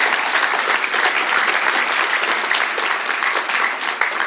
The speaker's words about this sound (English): Fantastic. Fantastic. Yeah, go and give him a round of applause.